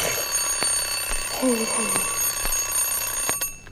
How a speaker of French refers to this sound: Cette sonnerie, c'est déjà le début d'une journée pleine de bruit.